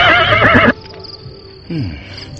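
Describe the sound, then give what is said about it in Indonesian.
A soldier's horse near a palace whinnies loudly in a single bright, quavering call that cuts off abruptly, followed by a short, lower snort or nicker over a faint insect hum. “Nampaknya kuda ini cukup tangguh.”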